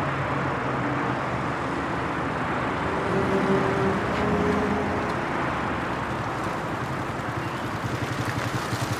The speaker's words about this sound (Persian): امیر با موتور سمت سوله اسماعیل میره.